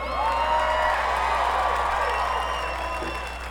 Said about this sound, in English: Before we go, we'd like to get a big round of applause for all the people who made this happen today. Sound, lights, monitors, all the techs, bus drivers, volunteers, security. Give it up for the crew, y'all!